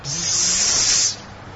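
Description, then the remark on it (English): A loud, steady hiss of many snakes hissing together in a snake-infested granary holds for about a second, then drops abruptly to a softer, lingering hiss. “Although there's so many grains stored in that facility, it's infested with snakes. You can hear them.”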